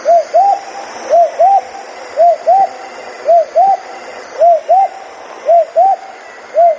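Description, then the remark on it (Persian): A laughing dove coos in soft, rising-and-falling notes grouped in pairs, repeating at a steady rhythm about six times over a constant background hiss. No one speaks. “دم جای خود است از او خود را اطفال زیادتر خوش دارن به صدایش و خود موسیچه علاقه مند استن.”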